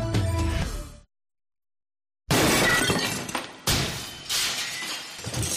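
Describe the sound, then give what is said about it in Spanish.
Glass shatters into pieces with a loud, bright crash, followed by a second burst of breaking and tinkling shards, after a brief moment of silence that cuts off a preceding musical tone. “El año pasado más de 300 motoristas se rompieron en 1000 pedazos como si fueran de cristal.”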